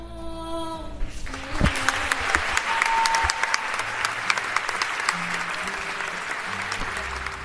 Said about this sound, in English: Wow, what an incredible reaction to the premiere of this film. People are laughing, cheering, clapping. And now that the lights have come up, I can see many people are also in tears. You can really feel this outpouring of emotion from the audience